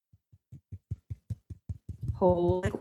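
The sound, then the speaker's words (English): Fingers tap a hard foot callus about a dozen times in a quick, steady rhythm, each tap a dull knock, before a voice breaks in over the final taps. “Should I tap my callus so you can hear it?”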